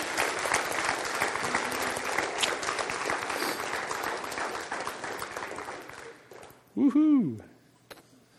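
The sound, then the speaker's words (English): A church audience claps their hands for the Lord in dense, steady applause for about six seconds at the close of a service, filling the room before it stops abruptly, followed by a brief spoken voice. “Can we give the Lord a hand clap for his grace?”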